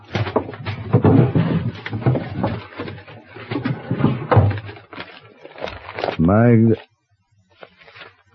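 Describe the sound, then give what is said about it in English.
The top drawer of a desk slides open with a brief rising squeak right after a stretch of conversation, followed by a moment of near silence and a faint sound. “Look in the top drawer of the desk there.”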